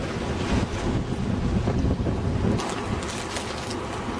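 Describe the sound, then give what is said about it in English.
Strong wind from the west roars across open water, buffeting the microphone with a steady, loud rumble while faint splashes and wave wash come through underneath. No one speaks. “Strong winds from the west.”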